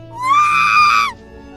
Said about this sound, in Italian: Qualche minuto dopo, un grido.